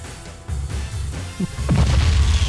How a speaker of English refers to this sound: We have explosions all over the place. They kind of sound the same, but they're not the same.